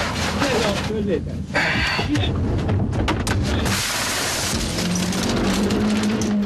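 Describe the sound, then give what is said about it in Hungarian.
A car's left front windshield is smashed by one of three attacking men with his bare hand: several sharp, cracking impacts burst through a dense, noisy scene, with agitated voices talking over the commotion throughout. “Az is hallható, hogy az egyik férfi a puszta kezével betöri a bal első szélvédőt.”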